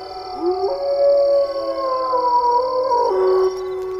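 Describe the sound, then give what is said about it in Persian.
A wolf howls in a thicket near a village in one long, unbroken call, its pitch wavering and stepping down over about four seconds. The howl is fairly loud and clear, with a faint steady hum beneath it. “گرگ در بیشه نزدیک روستا زوزه میکشه.”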